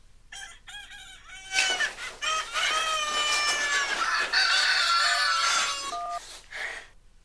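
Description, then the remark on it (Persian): A mobile phone ringtone made of rooster crowing and clucking, ringing from a phone left in the bathroom: several loud, high, warbling calls in quick succession over a few seconds, with no one talking. “صدای زنگ از تو دستشویی بود. موبایل من از صبح جا گذاشتم تو دستشویی.”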